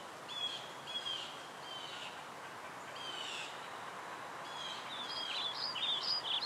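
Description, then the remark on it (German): Soft birdsong in a forest drifts over a steady, hushed background, with short chirps early on and a livelier run of high, twittering calls toward the end, all quiet. “Ganz leise hörst du die Vögel singen, hier und da das Rascheln der Blätter und das sanfte Knacken der Äste.”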